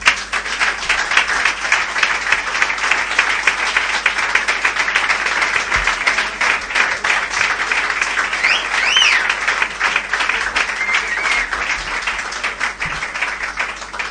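Sustained audience applause, a dense steady wash of many hands clapping at an even, loud level for the whole stretch, with a few cheers or whistles rising briefly midway.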